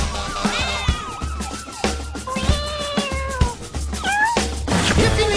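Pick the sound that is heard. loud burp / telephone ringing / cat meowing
cat meowing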